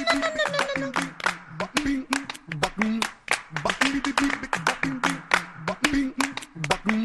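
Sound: audience applause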